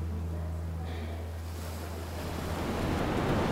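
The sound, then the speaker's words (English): Ocean waves wash against the shore in a steady, rushing roar that swells louder toward the end, with a low droning hum and some wind buffeting underneath. “Could the movement of waves help us reduce our reliance on fossil fuel?”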